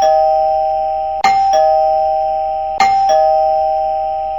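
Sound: doorbell ringing several times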